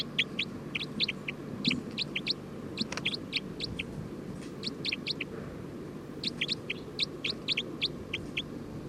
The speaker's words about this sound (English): We're recording bird 306.